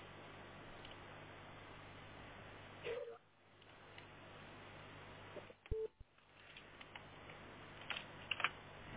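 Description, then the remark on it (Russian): A phone rings in a few short tonal bursts over a steady background hiss, with scattered clicks and taps around it and no one talking. “Это у тебя кто-то звонит или у меня?”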